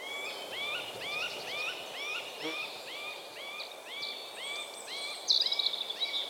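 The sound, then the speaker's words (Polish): A woodpecker gives a long series of mewing calls, short upswept notes repeated quickly and steadily, ending with a louder, harsher burst; no one speaks. “Przypomnijmy sobie, jak wtedy nawoływał, kiedy go wytropiliśmy.”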